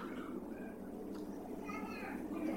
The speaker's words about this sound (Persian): یه حدیثی یادم افتاد، این بچه گریه کرد، من بیارید بگم یه حدیث قشنگ سر گریه این بچه که مادران بیشتر کیف کنه.